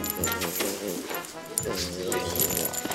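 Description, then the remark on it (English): A French bulldog and a young pug puppy yip and whimper excitedly in a steady, continuous stream, with people's voices mixed in and a light jingle of keys on a chain. “Lucy is a young, rambunctious pug puppy”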